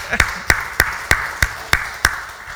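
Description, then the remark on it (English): A church audience claps hands to Jesus in unison on a steady beat, seven sharp, crisp claps spaced evenly about a third of a second apart, over a continuous murmur of voices. “Come on, let's clap our hands to Jesus.”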